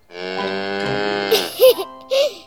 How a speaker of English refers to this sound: Oh, yes. I'm at the farm with Daddy. Look, it's a cow. Moo, moo.